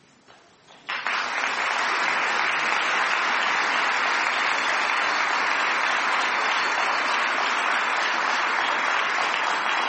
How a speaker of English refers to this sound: And I wish they could be here to hear your applause.